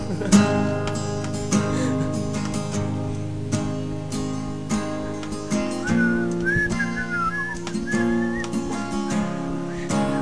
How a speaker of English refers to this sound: I can't whistle, but it's all good